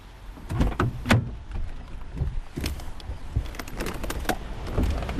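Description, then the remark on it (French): A metal shop shutter rolls down in the Grand Est region of France with a steady rattling grind, broken by sharp clanks and bangs at irregular intervals over about five seconds, fairly loud throughout. “Que je baisse la grille.”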